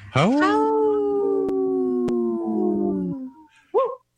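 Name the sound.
three wolf howls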